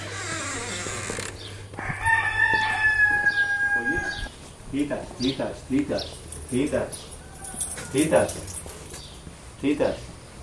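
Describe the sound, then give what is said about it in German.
A white rooster at Santo Domingo de la Calzada lets out one long, loud crow, its strained call rising and then trailing off, followed by people talking at conversational volume. “Cuando hay una tradición que dice que si te canta el gallo, te da buena suerte durante el camino a Santiago.”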